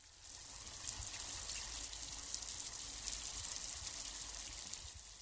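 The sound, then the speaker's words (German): Steady rain falls continuously, a dense hiss of countless drops patters evenly throughout with no pauses, moderately loud, with no voices present. “Okay, das war einfach, das war Regen.”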